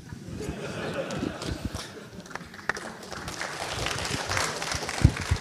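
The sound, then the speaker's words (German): A crowd applauds a spoken rant steadily, a dense crackle of many hands clapping at once, holding at a fairly even loudness and swelling slightly toward the end with a few sharper claps standing out. “Der Applaus spricht für dich.”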